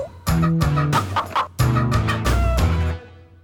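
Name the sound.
chicken clucking and squawking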